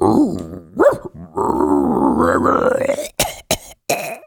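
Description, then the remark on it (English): A person imitates a raccoon dog with a strained, growling whine that rises and wavers, then breaks into three short, harsh coughing bursts. Fairly loud, with no actual speech. “Is that how raccoon dogs sound?”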